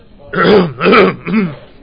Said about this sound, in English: Excuse me. I just need to be careful. Sometimes when I cough, it can be heard by others.